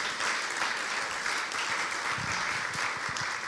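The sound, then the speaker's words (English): A crowd in Christchurch applauds steadily to welcome a speaker, a dense wash of many hands clapping at an even level for a few seconds, with no voices rising above it. “So let's give him a warm welcome. Round of applause.”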